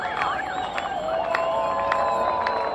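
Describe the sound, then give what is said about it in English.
Almost 1,000 cyclists of a Critical Mass group gather before a ride celebrating the organization's fourth anniversary, buzzing with steady, overlapping chatter, punctuated by scattered shouts, whistles and bright clicks, some ringing bells as they wait for the ride to start, loud throughout. “This October, there are almost 1,000 participants gathered to ride and to celebrate the organization's fourth anniversary.”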